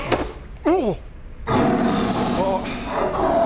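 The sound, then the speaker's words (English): A brief wavering, pitch-sliding growl gives way to a loud, rough, sustained roar of a tiger, filling the final two seconds. “Nice tiger, yeah.”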